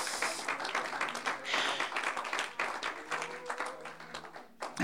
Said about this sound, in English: Would you clap your hands and thank God for His word tonight?